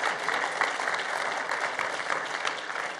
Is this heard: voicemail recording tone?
no